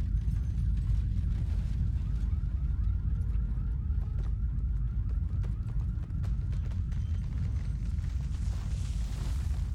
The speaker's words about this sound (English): Descending from heaven, came and rolled back the stone and sat on it.